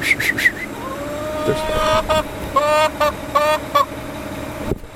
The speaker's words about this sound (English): Oh, you don't like the sound of that garbage truck there.